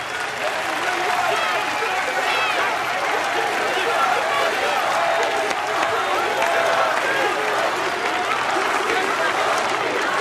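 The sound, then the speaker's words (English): A large crowd at a boxing weigh-in in Las Vegas applauds steadily for about ten seconds, a dense, even wash of clapping with scattered cheers and murmuring voices mixed in, staying loud throughout without fading. “A huge crowd is gathered for the weigh-in in Las Vegas.”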